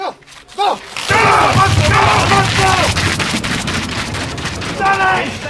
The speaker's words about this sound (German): Das nächste Viererteam steht mit ihrem Bob parat. Der Start ist wie eine Explosion. Mit aller Kraft und höchem Tempo schieben sie den Schlitten an. Einen um den anderen kommt rein, zuerst der Pilot, dann die beiden in der Mitte.